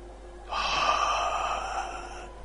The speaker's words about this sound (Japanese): やつは顔を上げ再び息を吐いた。